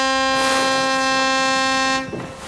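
A ship's horn, sounded by the captain, gives one long, loud, steady blast as a warning to leisure motorboats that come too close. Its low, rich tone holds for about two seconds before cutting off abruptly.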